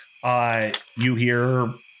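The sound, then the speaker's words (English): A person imitates crickets chirping at night with their voice in two drawn-out, buzzy bursts separated by a short pause, fairly loud, with no other sounds around. “You hear lots and lots and lots of crickets, and that's about it.”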